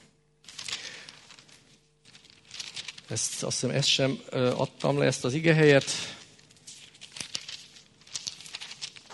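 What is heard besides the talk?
turning Bible pages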